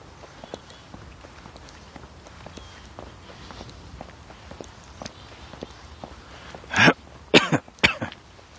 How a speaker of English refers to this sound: Great, I'm going to start coughing now.